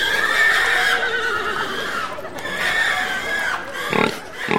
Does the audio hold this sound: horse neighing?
yes